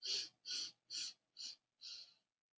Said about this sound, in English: Now switching to the second method for the third breathing exercise.